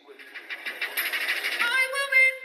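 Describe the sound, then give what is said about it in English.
A public-address announcement that no trains are stopping rings out in the eerily deserted railway station of the town of Codogno during lockdown, the amplified voice smeared by heavy echo, with lingering reverberant tones trailing off at the end. “The town's eerily deserted railway station echoes to announcements that no trains are stopping there.”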